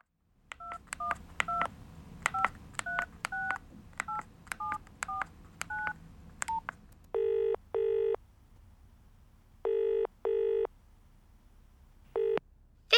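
About a dozen quick touch-tone beeps dial a number, then a phone ringing tone sounds in repeated double bursts, clear, with no one talking.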